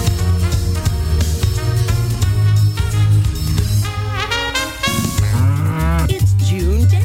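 A herd of Wisconsin cows moos loudly and continuously, several deep, drawn-out calls overlapping, with pitch rising and falling as the lowing carries on for several seconds.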